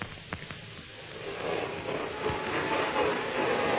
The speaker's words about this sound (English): Geez, listen. Sounds like a vacuum cleaner. Yes, it does. On the other side of the door.